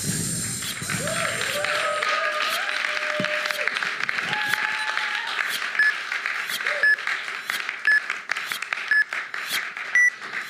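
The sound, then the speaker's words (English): A church audience breaks into steady, loud applause for the evening's three messages, lasting the whole stretch, with a few rising whoops and cheers early on and a faint, high beep repeating about once a second toward the end. “Why don't we give them all a massive round of applause one more time.”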